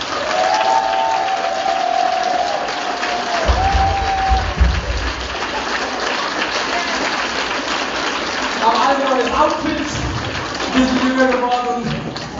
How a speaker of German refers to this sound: Meine Damen und Herren, machen wir auch mal einen kräftigen Applaus an das ….